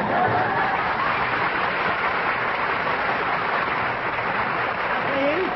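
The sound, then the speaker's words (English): Steady, loud applause from an audience, a dense wash of clapping that keeps up throughout with a faint murmur of voices and laughter mixed in. “Don't applaud.”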